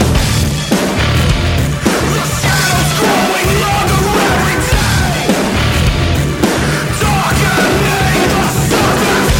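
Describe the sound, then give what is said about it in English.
A loud, dense hardcore punk track pounds along at full volume, with raw shouted vocals barking over distorted guitars and driving drums that never let up. “I do almost like a sort of a old school hardcore punk shouting kind of vocal kind of thing in this track.”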